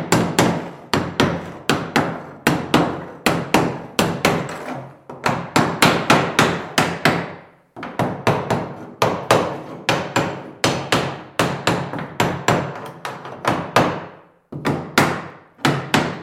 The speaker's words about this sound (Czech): A já pořád, kdo to tluče, to ten bednář na obruče. Teď budeme utahovat obruče u sudu. Sedlík, tohle je sedlík kladivko, takový speciální s drážkou a palička kyanka.